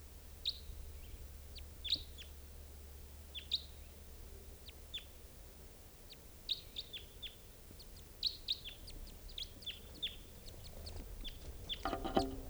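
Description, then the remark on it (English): Wild crossbills chittering: a scatter of short, high, sharp chip notes in irregular bursts, some clustered in quick runs, over a steady low background rumble. One of the birds looks like an orange male. “Chittering, and there's one right here.”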